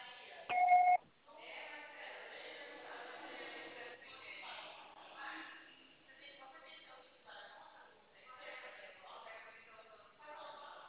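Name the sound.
answering machine beep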